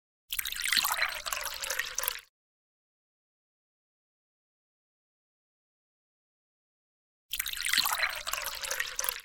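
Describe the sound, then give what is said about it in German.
Water is poured into a glass in two short bursts of about two seconds each, split by a long silent gap. Each pour is moderately loud, with a rising gurgle as the glass fills. No voices. “Apropos Milch, möchte jemand Kaffee oder Wasser? Ja, gerne. Wasser bitte.”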